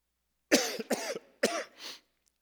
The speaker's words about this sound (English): Is that really loud when I cough? No? You wouldn't tell me anyways if you was.